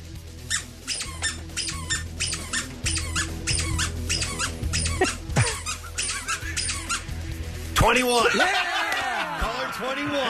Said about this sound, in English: Give me a number of squeaks, and that's the number caller will take.